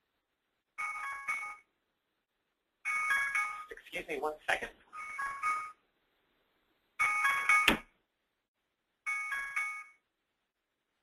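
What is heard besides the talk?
alarm going off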